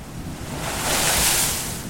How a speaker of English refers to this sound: The sea and the power of the waves are doing the job of the old quarry workers, constantly nibbling away at the land, revealing new rocks, new patches of earth.